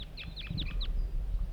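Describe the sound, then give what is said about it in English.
Three wild birds, all appearing to be males, call from a dead pine just beyond a net site in a quick run of about five high, sharp chirps within the first second, then fall quiet over a steady low rumble of background noise. “Up here, wild birds coming in.”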